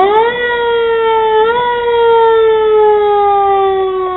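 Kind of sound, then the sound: vehicle, police squad car siren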